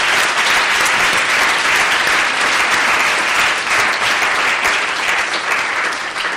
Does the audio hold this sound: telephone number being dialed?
no